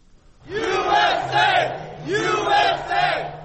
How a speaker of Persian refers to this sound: شادمانی هواداران دونالد ترامپ در لحظه‌ای که رسانه‌ها نتیجه غیر رسمی انتخابات آمریکا را اعلان کردند.